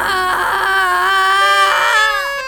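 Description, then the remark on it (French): A baby screams from the back seat of a 4L car in one long, loud, unbroken wail, its high shrill pitch wavering and bending upward near the end, with no talk over it. “Soudain de la banquette arrière jaillit un hurlement d'enfer.”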